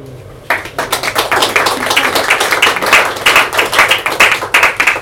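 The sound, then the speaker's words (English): Applause from an audience after a poem is read, beginning abruptly and continuing steadily, a dense patter of many hands clapping at a fairly loud, even level throughout, with no voices heard. “Thank you very much for clapping.”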